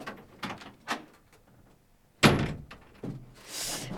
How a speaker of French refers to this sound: Bon, allez, j'y vais, je vais ouvrir la porte.